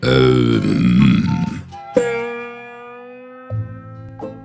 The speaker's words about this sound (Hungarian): Galamb eddig nem találta a hangját, de már megvan neki.